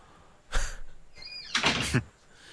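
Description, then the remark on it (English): A door swings and shuts after a dog is taken out of the room, with a sliding, scraping movement followed by a soft thud as it closes. Faint squeaks accompany the motion, and there is no talking. “The door closes. Yes, the door closes. Sorry, I was getting the dog out of the room.”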